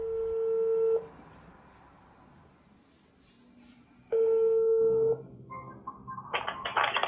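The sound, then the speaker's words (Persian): A mobile phone ringback tone, as a woman sitting on her bed at night calls her father, sounds twice, each steady electronic tone lasting about a second with a long quiet gap between, followed by a brief burst of clicky, higher-pitched noise as the call connects. “گوشی موبایل رو بر میداره و به پدر زنگ میزنه.”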